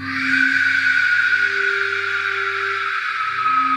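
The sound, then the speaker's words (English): An Aztec warrior whistle lets out a long, loud, rasping shriek, a harsh airy wail held steady for nearly four seconds, with a low droning hum beneath it and no voices. “It's said you would know the Aztec warriors were approaching your village when you heard this whistle.”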